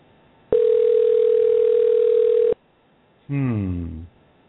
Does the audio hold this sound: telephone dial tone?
yes